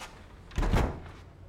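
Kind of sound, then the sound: household object, door being closed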